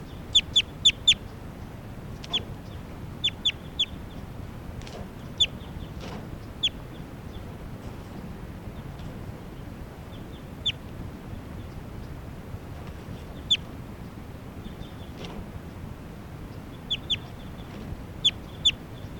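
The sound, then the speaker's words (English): A bird, tagged bird 387, gives short, sharp clucking calls in irregular bursts of two to four, high and clipped, with pauses between, over a steady low background rumble and no talking. Recorded at Sage Hen. “So recording, this is bird 387.”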